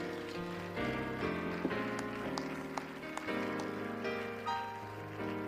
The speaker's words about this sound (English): Before you're seated, would you clap your hands again to the Lord?